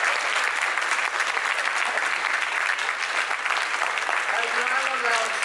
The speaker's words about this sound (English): Are there any other lawyers here besides me still? Could you stand up if you're... I can't even see everybody. Hi! Can we have a round of applause for the cannabis lawyers?